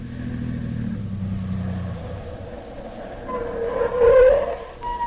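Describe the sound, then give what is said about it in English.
A car engine rumbles as Dr. Christian's car drives up, growing louder and rising in pitch before easing off as it pulls in and stops. “That must be Dr. Christian's car now.”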